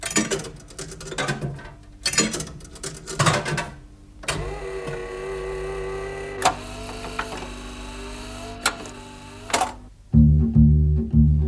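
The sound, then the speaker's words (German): At the start of the radio play The Desperate Hours (Die Stunden nach Mitternacht) by Joseph Hayes, coins clatter and clink as they drop into a jukebox, followed by a steady mechanical whir with humming tones and clicks, then loud, bass-heavy music suddenly kicks in. “Und zuerst hören wir Münzen, die in eine Musicbox fallen, obwohl von einem Plattenspieler gesprochen wird.”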